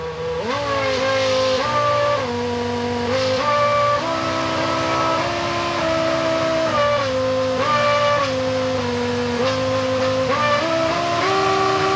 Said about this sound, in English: And also kind of a party trick that some of the Formula One teams were doing for a while was programming in songs into the engine. So the engine would change RPM and hold it there, just like you would do with a musical note.